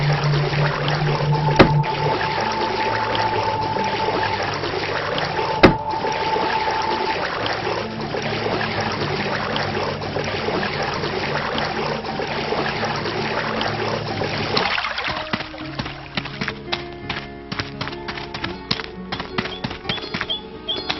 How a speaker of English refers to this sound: The water's one. Need to swim across this body of water.